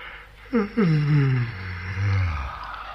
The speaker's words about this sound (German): Papi, was tust du? Ich gähne.